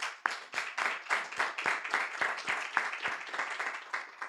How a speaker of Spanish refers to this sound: Vamos a dar palmas al Señor, hermano.